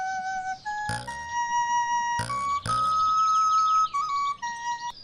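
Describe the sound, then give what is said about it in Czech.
A small whistle plays a lively tune in clear, bright stepped notes, a few sharp attacks marking the phrases, heard alone with no talking. “Dostal jsem píšťalu, tak si aspoň zapískám, dokud mám ještě hlavu na krku.”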